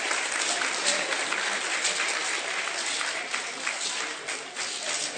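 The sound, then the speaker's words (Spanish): Sustained applause from an audience at an event, dense and steady clapping filling the whole clip with no pauses, as two people are invited to come forward. “Un aplauso muy fuerte, por favor, para ellos.”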